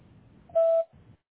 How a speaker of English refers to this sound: Please leave a message after the tone and we'll return your phone call as soon as possible.